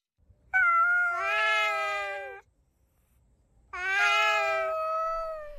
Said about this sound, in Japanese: 近所の人たちは夜になると喧嘩をしたり、発情期に差し掛かった猫の鳴き声に悩まされるようになります。 特に空き地に面したアパートの3階に住んでいる30代半ばの女性は、猫の鳴き声に眠れない夜を過ごしていました。